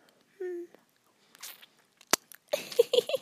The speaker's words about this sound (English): I licked your nose, Daddy. I know I'm your licky little kitten, Daddy. Yeah, I like licking your nose.